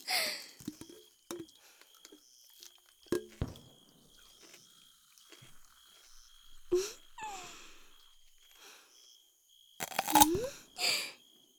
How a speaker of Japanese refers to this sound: 炭酸は気になりますけど、最初にゴクゴクしないのはビールに失礼ってものですよ。さあさあ、お客様もぐいーっと。